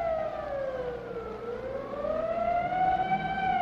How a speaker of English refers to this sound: And at 1:32, as directed by the mayor, the siren sounds once more. Take cover.